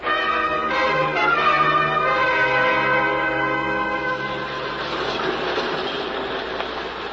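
A subway train pulls into a station, its brakes letting out a loud, sustained metallic squeal that fades into a steady rumbling roar of wheels and rails. No voices are heard.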